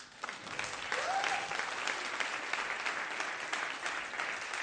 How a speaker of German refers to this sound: Können wir der Band einen Applaus geben?